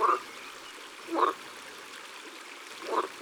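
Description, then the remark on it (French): Green frogs croak three times in short, twangy calls spaced a second or two apart, at the water's edge over a steady background of gently running water. No one speaks. “C'est sûr, c'est des grenouilles vertes.”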